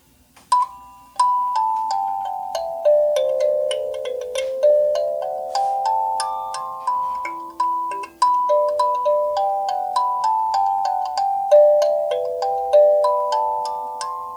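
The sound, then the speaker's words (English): Plucked kalimba notes played back on a tape recorder at slow speed, forming a gentle repeating melody of mellow, bell-like tones with soft attacks and lingering decays, steady and unaccompanied throughout. “And then the kalimba also sounds great on slow speed, as well as the 7 1/2.”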